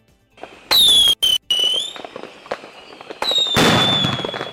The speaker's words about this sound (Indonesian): Pendengar, perayaan malam tahun baru di berbagai belahan dunia berlangsung lebih sepi dibanding biasanya. Meskipun tetap ada kembang api dan petasan di Seoul, Korea Selatan, Wellington, Selandia Baru, Sydney, Australia, atau Ottawa, Kanada